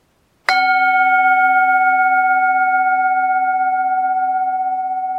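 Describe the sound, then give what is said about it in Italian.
A single metallic gong strike rings out with a sharp attack, then a sustained shimmering tone with several steady overtones that slowly fades over about five seconds. “Dimenticavo il contenuto fantascientifico della puntata di Woz che stavate così tanto aspettando, e visto che il gong è già suonato, ora sono libero di farvi tutti gli spoiler del mondo.”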